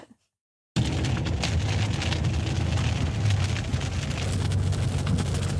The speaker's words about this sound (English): And what do you know? The forecast was... Rain.